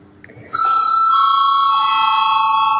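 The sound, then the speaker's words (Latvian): A parliamentary bell signalling a vote rings out loud after a brief quiet moment, holding one steady, sustained electric tone through to the end with no one talking. It is rung before a vote on a bill amending the value added tax law. “Paldies, lūdzu zvanu.”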